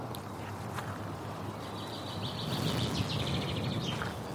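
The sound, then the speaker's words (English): A small songbird, a chaffinch, sings a quick, bright series of notes over steady outdoor background noise while a bird-call identification app records it; no one speaks. “Top matches: chaffinch, nightingale, or redstart.”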